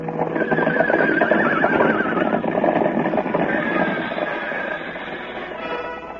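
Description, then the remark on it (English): Horses of the family of the stallion Banner, on a ranch on a clear spring morning, neigh and whinny over a steady, busy rumble of hooves, the high calls rising and falling in pitch while the galloping stays loud throughout, easing slightly toward the end. “Yes, this is the family of the stallion Banner.”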